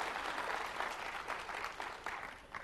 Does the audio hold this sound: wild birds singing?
no